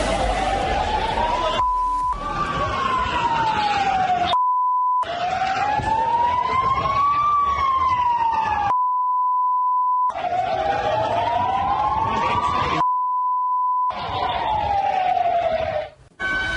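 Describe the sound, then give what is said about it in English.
A loud emergency siren wails, its pitch sweeping slowly up and down in repeated cycles over a dense, noisy background, broken by short bursts of a steady held tone. “Screams, panic, sirens, victims lying on the ground, bystanders shocked and confused as to what to do to help.”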